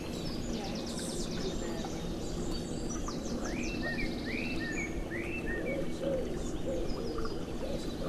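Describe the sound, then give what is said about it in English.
A pigeon coos softly and steadily in a woodland, its low, repeated calls mixed with scattered chirps and trills from warblers singing in the distance. “Good pigeon.”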